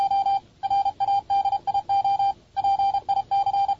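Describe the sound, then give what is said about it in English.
A clear, steady electronic tone keys on and off in Morse code, short dots and longer dashes in quick succession, loud, with no voices: the opening sound of RKO Pictures film releases. “Is that Morse code for... It's Morse code for, this movie is going to be awesome!”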